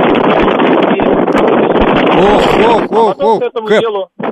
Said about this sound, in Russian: Да, просто да. Вы же питерский, у вас там лютый ветер все время. Вас практически... Лютый ветер, да, прямо сейчас.